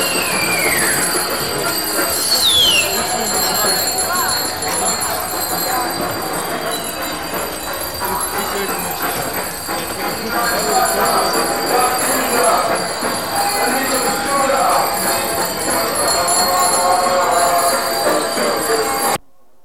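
Bicycle bells ring with bright, high metallic tones over the steady, busy bustle of many bicycles riding along the Leidse straat, joined by a faint squeal and murmuring voices in the background.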